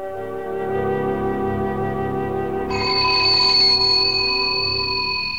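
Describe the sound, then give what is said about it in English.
An old-fashioned antique telephone, encased in a wooden unit inside a house, starts ringing partway through, a steady, bright, sustained ring layered over a continuous droning musical background. No one speaks. “At the sound of an old-fashioned phone ringing, two Doberman dogs stationed outside the property prick up their ears and dash towards the house.”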